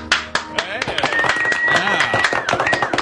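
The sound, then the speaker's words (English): A crowd claps in sharp, irregular bursts while voices whoop and cheer after a performance of an original song, with a high sustained whistle-like tone rising above the noise partway through. “Listen to the crowd. They loved it.”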